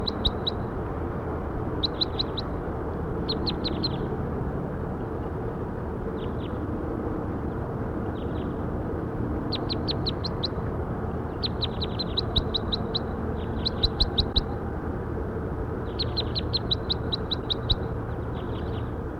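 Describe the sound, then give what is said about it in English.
Bursts of high, rapid bird chirps repeat in short clusters, some clusters packed with many quick notes, over a steady low rumble of background noise with no talking. “Bird 5-7.”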